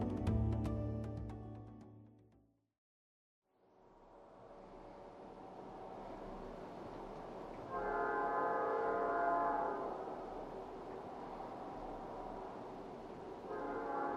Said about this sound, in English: At this point in the drive, I'm passing trains that are topped perfectly with coal, snaking to each side of the horizon.